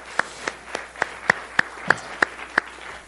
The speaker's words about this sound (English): I think they deserve a hand. You guys give them a hand. Woo!